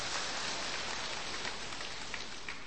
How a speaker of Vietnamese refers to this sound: Chúng ta cho một tràng pháo tay để gặp gỡ người anh em này.